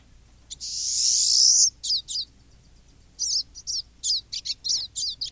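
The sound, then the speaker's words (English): A pine siskin's long, buzzy rising wheeze opens, followed by a string of quick, twittering chirps in bursts, clear against a quiet background. “and this is really exciting because you can bird for many, many years in New York and never see a pine siskin.”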